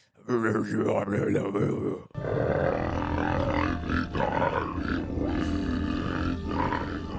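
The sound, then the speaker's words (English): A voice imitates the weird, demonic snore of the character Little Nicky from the film Little Nicky: loud, harsh, growling rasps that sound almost like a roar, with a brief break after the first couple of seconds before the guttural snarling continues. “When Little Nicky's asleep, he has that weird like snoring thing where he's like...”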